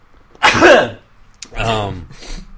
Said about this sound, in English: Sorry, I need to sneeze.